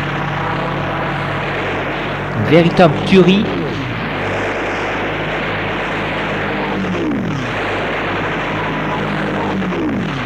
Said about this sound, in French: Les troupes de robots en forme d'hommes se battent comme des forcenés, à coups de mitraillettes, poignards, tanks, chenilles, aidés par le ciel, par des hélicoptères, des avions de combat.